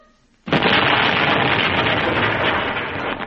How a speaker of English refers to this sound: Hug the fear and touch that bomb. But the detonator's exposed. It'll go bang and I'll die.